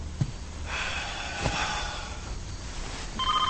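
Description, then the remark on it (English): A telephone rings in a den with a bright, warbling electronic tone, fairly faint at first and then swelling into a clearer, pulsing ring near the end, with no voices heard. “As he answers the phone, he knocks over a framed picture of his family.”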